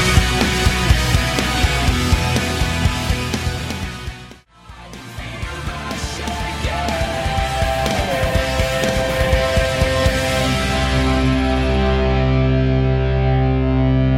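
A loud rock song with heavily distorted guitars and driving drums plays with no talking, cutting out for a split second before surging back and ending on sustained, ringing chords.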